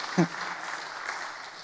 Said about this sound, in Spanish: ¿Me escucharon? Aplausen al Señor para que yo sepa que ustedes me están entendiendo.